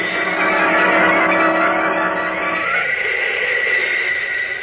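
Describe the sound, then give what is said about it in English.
A loud, sustained rushing whoosh of Superman, the Man of Steel, streaking up and away, a steady windy roar with whistling tones that thins slightly toward the end, with no voices. “Then, like a mighty bird, the Man of Steel streaks away, his keen eyes following the faint, but to him, distinct trail of tire tracks below him.”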